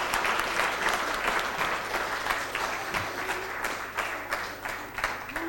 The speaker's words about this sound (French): Allez, on vous applaudit, ouais.